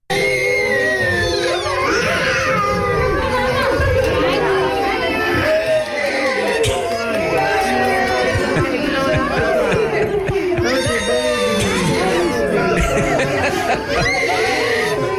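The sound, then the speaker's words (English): Many infants cry and scream over one another in a loud, continuous din, their overlapping wails filling the room without a break for the whole stretch. “and then we do this process over and over and over again while the room is filled with screens from these infants. Oh yeah, no, this is what the room sounded like.”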